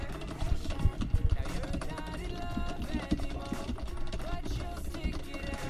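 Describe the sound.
Rapid, frantic keyboard mashing with clattering key taps in quick irregular bursts, strongest early on, running under busy game sounds and some voice, while playing a fighting game on a keyboard using the K and L keys.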